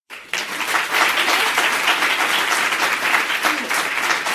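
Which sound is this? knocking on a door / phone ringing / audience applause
audience applause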